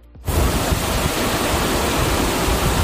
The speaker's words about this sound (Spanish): Y esto pasó, una columna de agua enorme que salió con una presión tan grande que llegó a la altura de un séptimo piso.